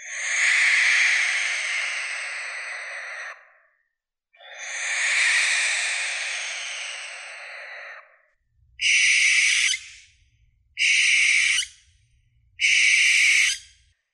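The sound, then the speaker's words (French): A male barn owl's territorial screech, harsh and hissing: two long rasping calls of several seconds each, then three short clipped bursts of the same shrill, noisy sound, loud and with no talking. “On dit que la chouette effraie chointe.”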